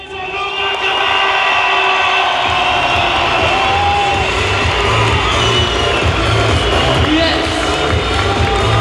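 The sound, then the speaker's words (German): A packed arena crowd roars and cheers continuously during Luke Ackermann's final flight round, a dense wall of voices with scattered whoops and shouts rising above the loud, sustained din. “Richtig laut wurde es in der Arena allerdings erst zu Ackermanns finaler Flugrunde, sehr zur Freude des Thüringers.”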